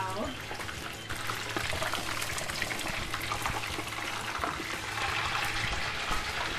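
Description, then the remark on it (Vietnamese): Deboned chicken wings fry in hot oil until golden, with a dense, steady sizzle and crackle that runs evenly throughout, fairly loud, over a low background hum. “Rồi cánh gà sau khi mình cảm thấy vừa chiên vừa mà nó vừa màu vàng đẹp rồi đó”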